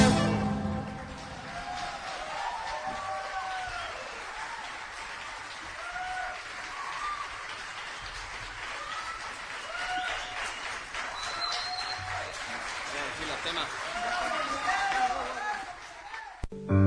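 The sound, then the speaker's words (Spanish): An audience applauds after a live folk song performance recorded in Bolívar in January 2003, in a dense, steady wash of clapping that lasts the whole stretch, with scattered cheering voices rising above it. “Ese que aplaude, esa que aplaude, quizá eras vos, porque la canción que pasaba era interpretada por”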